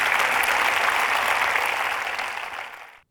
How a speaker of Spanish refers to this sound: Si Dios te habló, da un aplauso al Señor, que Él se lo merece en este día.